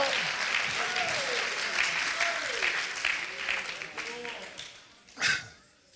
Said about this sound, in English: Also, if that's how you feel, would you clap your hands and lift your voice out? Hallelujah! Hallelujah!